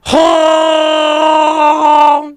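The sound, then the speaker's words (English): A person imitates a Wookiee roar with one loud, sustained, raspy vocal growl lasting about two seconds, rich in harmonics, holding a steady low pitch before trailing off. “You know, think my accent's still okay? What do we... let me warm up here.”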